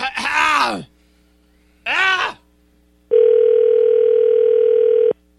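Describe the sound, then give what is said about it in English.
Two brief vocal sounds give way to a loud, steady telephone ringback tone that hums for about two seconds before cutting off abruptly. “Is it ringing?”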